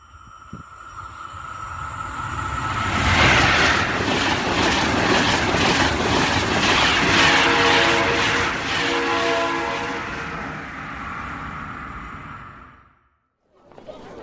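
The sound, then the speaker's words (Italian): A high-speed train to Rome rumbles loudly past, its wheels clattering rhythmically beneath a steady whining tone, before the noise fades and cuts off near the end. “Cerca due biglietti alta velocità per Roma. Se ci aggiungiamo un biglietto della metro ciascuno, arriviamo dritti dritti davanti alla piramide.”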